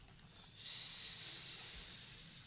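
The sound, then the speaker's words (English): A person hisses like a snake, one long, steady breathy hiss held for about two seconds, with no other sounds around it. “But what if it's a pizza snake? Then what would you say?”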